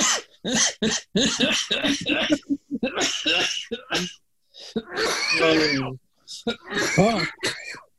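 A person coughs repeatedly in harsh, close bursts, with hoarse vocal sounds mixed between the fits and brief pauses separating them.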